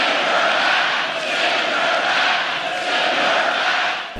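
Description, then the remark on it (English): A large rally crowd in a packed stadium chants the slogan "send her back" loudly in unison, a dense roar of many voices rising and falling steadily for several seconds, with no single speaker standing out. “I mean, even now listening to that, send her back and then calling them patriots.”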